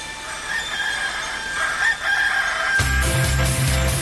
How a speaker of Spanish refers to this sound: Están los perritos. No son perritos, ¿qué eran? Sí, sí. Adivinaste. Fuera. Son gallos. Son gallos.